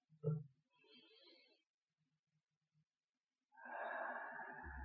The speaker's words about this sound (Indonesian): Anak-anak, saat kita bernapas, udara masuk ke dalam tubuh kita melalui hidung. Mari kita bersama-sama menarik napas.